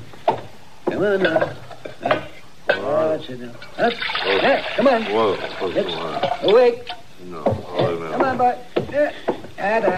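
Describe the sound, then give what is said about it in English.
Water pours steadily for a few seconds in the middle, a soft rushing splash, while people keep talking over it. “You better get me some water, Chester.”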